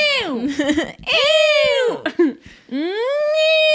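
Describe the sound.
A loud voice produces three bright, nasal twang singing sounds like a baby's whine, sliding down, dipping, then rising and holding, with brief gaps between and no words.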